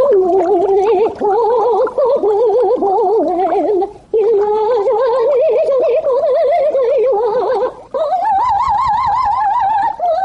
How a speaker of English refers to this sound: So what are you waiting for? Your goldfish to sing Bizet's Carmen?